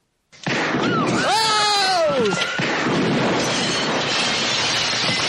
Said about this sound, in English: Oh! I didn't know DVDs shattered like glass. DVDs are shattering everywhere!